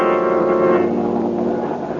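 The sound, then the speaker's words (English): A steady, droning engine of an airplane flying high over a railway track hums continuously, its layered low and mid tones holding an even, unbroken level throughout, with no voices present. “As we return to our story, Boston Blackie and his friend Mary are in an airplane high over the track from which the train disappeared.”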